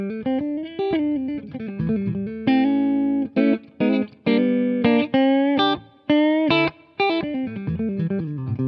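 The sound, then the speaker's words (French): A distorted electric guitar plays loud, sustained chords and riffs through a Michelangelo Basio 250M amp head as a short overdriven intro, with short choppy breaks between phrases and no voices. “On va tout simplement tester, après avoir fait une petite intro en saturé avec la 250M de Michelangelo Basio, on va tester le canal clean.”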